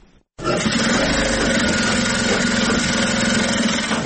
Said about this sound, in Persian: ماشین های خیاطی برقی در یک سالون کلان بر میزهای مخصوص گذاشته شده و دختران توسط آن لباس می دیزند. برخی از دختران با ماشین های خیاطی کار می کنند